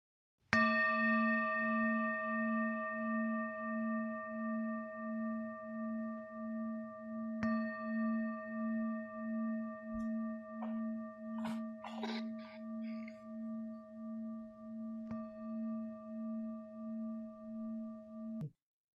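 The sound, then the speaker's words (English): A meditation bell is struck three times, evenly spaced, each strike sustaining a low, steady ringing tone that wavers and pulses as it hums on without pause. No voices. “And then when you hear the sound of the bell coming back,”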